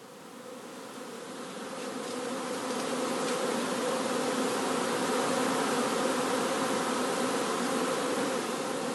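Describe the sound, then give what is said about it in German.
A dense, steady drone of many honeybees buzzing around a hive, flying in and out, swelling slightly in the first couple of seconds and then holding constant, with no voices. “Zwölfe, die jetzt noch raus und rein gehen, aber es ist zum Teil fehlen auch Königinnen.”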